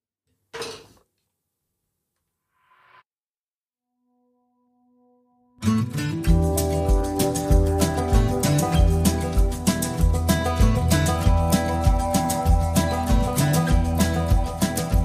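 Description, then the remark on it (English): After a brief thump, a faint clatter and a soft sustained tone, loud full-band music with a steady driving drum beat, played during a break, bursts in and plays continuously to the end. “We'll leave you with some music.”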